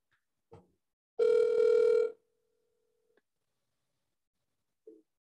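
A phone's dial tone as someone places a call: a loud, steady buzzing hum for about a second, then a much quieter continuous tone that cuts off with a click. Brief handling clicks come before and after, and nobody speaks.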